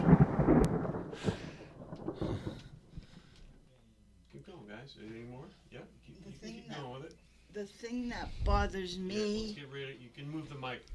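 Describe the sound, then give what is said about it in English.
A loud, deep rumble of thunder during a thunderstorm rolls through for the first couple of seconds, then fades as a person starts talking over a faint low background. “The thing that bothers me is when it thunders after lightning, and it makes your ears really sore.”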